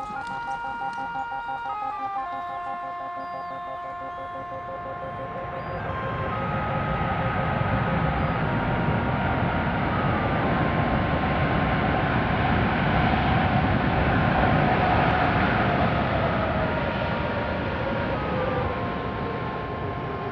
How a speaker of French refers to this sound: Ici, c'est un des plus gros avions qu'on ait, c'est le 747. Un 747 comme ça peut embarquer 150, 160 000 litres, quoi.